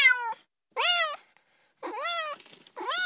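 cat meowing

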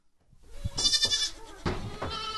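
goats bleating

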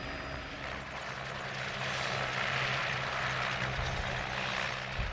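helicopter landing

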